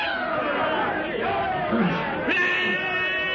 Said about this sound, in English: In the Gregory camp, a native bearer runs amok and charges the group of whites gathered about their campfire. Tarzan's companions stand petrified as the crazed black bearer, brandishing a heavy spear, leaps toward the man with a blood-curdling yell.